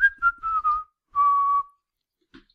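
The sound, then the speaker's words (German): Someone whistles a short video game melody, the Rocket hideout theme from Gold and Silver: a few quick, clear notes followed by a longer held tone, fairly loud, with no talking. “Das war das Rocket-Versteck in Gold und Silber. Es ist, also nur vom Pfeifen her, das sowas zu erraten, ist eigentlich ziemlich schwierig.”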